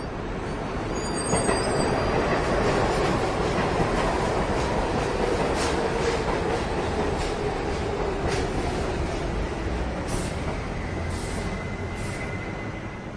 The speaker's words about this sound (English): The subway, you can hear the subway on street level.